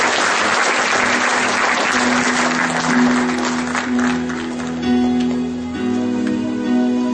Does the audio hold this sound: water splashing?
no